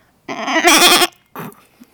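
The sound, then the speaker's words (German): A person imitates a goat's bleat with a loud, quavering, nasal cry lasting most of a second, followed by a shorter, softer bleating sound. “Und ich habe vorhin auch schon eine Ziege meckern gehört, ungefähr so.”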